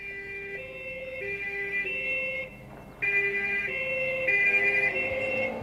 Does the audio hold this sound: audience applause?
no